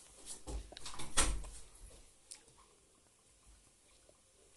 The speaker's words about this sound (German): Komm rein, mach die Tür zu.